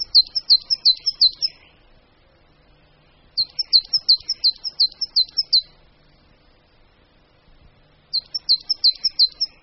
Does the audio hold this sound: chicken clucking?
no